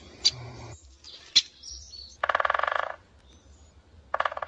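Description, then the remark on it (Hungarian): A woodpecker drums on a tree in two rapid, evenly spaced bursts of tapping, loud, with a couple of sharp bird calls before them and no talking. “Ő egy harkája, mint egy fán kopácsol.”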